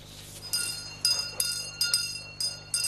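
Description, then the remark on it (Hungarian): Small handbells jingle in a loose series of bright, high metallic strikes, about six over a few seconds, each ringing briefly above a faint steady low hum; bell ringers signal the approach of a Catholic house blessing, where priests and altar servers go house to house after Christmas in Transylvania and Székely Land. “Csengettyűsök jelzik a házszentelő közelettét.”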